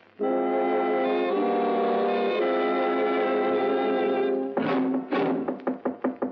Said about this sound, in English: I'm sure there's someone in there. About one more knock like that, and them hinges will give up the struggle.